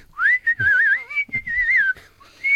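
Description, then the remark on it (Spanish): Someone whistles a wandering, tuneless line, the pitch sliding and wobbling in short phrases with brief breaks, no words spoken, loud and clear. “¿Tú has visto que un albañil cuando está haciendo su trabajo se pone a silbar, no silba ninguna sintonía?”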